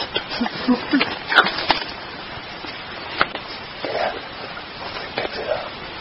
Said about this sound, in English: You know, I got to tell you something. Those howls sound just like the Sierra sounds back in 73. Very compelling.